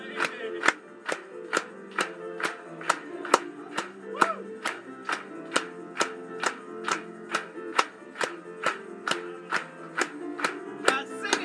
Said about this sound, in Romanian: Haideți să-L aplaudăm încă o dată.